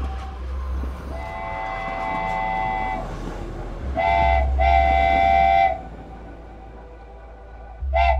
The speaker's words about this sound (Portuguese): Ao longe, ele escuta o apito do trem que se aproxima da plataforma.